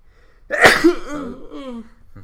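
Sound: sneeze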